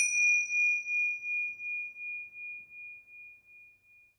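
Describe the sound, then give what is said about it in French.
Tingsha cymbals struck once, giving a bright, high, pure ringing tone that wavers in a slow, steady pulse as it fades gradually over about four seconds, with no talking. “Et maintenant, écoute les tingsha tinter jusqu'à ce que le silence s'étende.”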